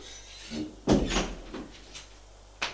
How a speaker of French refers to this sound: frappe à la porte de la chambre bleue. Entrez. Ils entrent.